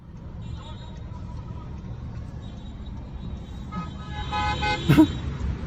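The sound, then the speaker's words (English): Cars honking their horns in Joe Biden's car parade, with sustained tonal horn blasts over a steady rumble of traffic, swelling louder toward the end with a sharp burst near the close. “I don't want to be accused of spreading fake news, so I want to play cut 13 and let you see for yourself. This is Joe Biden's car parade.”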